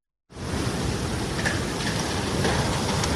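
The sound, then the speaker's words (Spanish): Tsunami waves caused by the Hunga Tonga volcano explosion surge onto an island in Tonga, carrying away vehicles and small buildings, in a loud, unbroken roar of rushing water that starts abruptly and holds steady, with faint higher clatters scattered through the churning noise. No voices. “Esta es la fuerza del mar, ya lo estás escuchando, es un sonido de las olas llegando a la isla y llevándose vehículos, pequeñas construcciones.”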